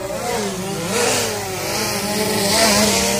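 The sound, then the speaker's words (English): A drone buzzes steadily for a few seconds, its motor whine holding a layered, engine-like tone that rises and dips slightly in pitch. No one speaks. “What is neither expected nor welcome at Super Bowl 50?”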